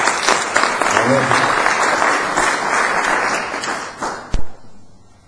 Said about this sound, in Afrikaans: Hier een baie groot hande klap.